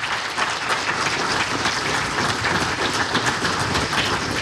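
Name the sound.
audience applause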